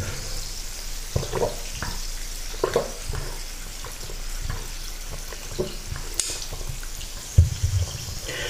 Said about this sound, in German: Ja, zu Hause darf man sowas ja. Aber als Kellner dürfte man sowas nicht. Ihn so voll machen bis an den Rand, das Glas so voll machen bis an den Rand und dann den Leuten hinstellen, das geht natürlich nicht.